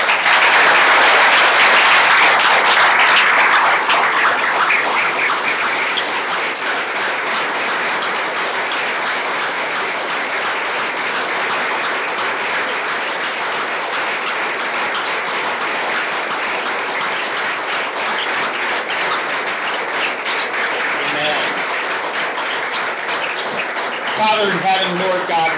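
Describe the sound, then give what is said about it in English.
An audience in church one morning applauds steadily for about twenty-five seconds to honor people for their witness and suffering for the gospel, a dense, even wash of many hands clapping at once, with a brief swell near the end and scattered voices mixed in. “And I'd like to give them a great hand.”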